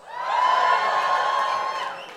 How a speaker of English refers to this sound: Let's get a little cheer.